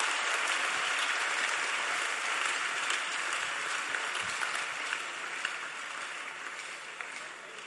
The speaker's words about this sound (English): Wow. Clap for Jesus. You may be seated.